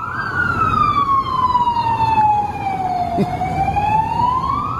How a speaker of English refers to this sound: Because I was going to go firefighter. I mean, I know it's a fire engine, not just the men inside or the women inside.